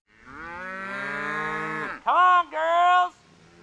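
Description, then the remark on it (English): Cattle on a farm with about 55 cows and 10 pigs in eastern Ohio, on a hillside above a creek, moo fairly loud: one long, drawn-out moo followed by two shorter, rising calls in quick succession, with no talking. “There are about 55 cows and 10 pigs on Kenny Merrick's farm in eastern Ohio.”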